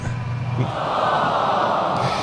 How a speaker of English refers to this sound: Is that cute and cuddly? That's a aww.